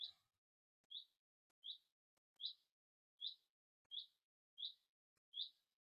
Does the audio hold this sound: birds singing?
yes